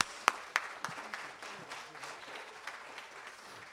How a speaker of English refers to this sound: Please clap really loudly for the …. You're going to love them.